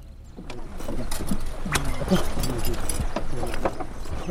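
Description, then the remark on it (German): A horse-drawn cart rolls across the island of Marloch in the Saloum Delta, sea salt crunching under its wheels, hooves clip-clopping in a loose, uneven rhythm over a continuous rumbling, fairly loud, with faint murmuring voices in the background. “Wir fahren mit einem Pferdewagen über die Insel Marloch.”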